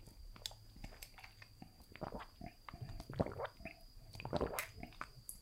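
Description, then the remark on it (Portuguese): Someone drinks water: wet sipping and swallowing sounds with soft lip smacks and clicks, louder gulps clustering near the middle and end. No one speaks. “Deixa eu tomar mais uma agora aqui, só um minutinho.”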